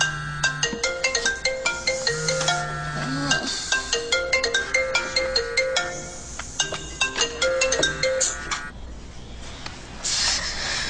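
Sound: phone ringtone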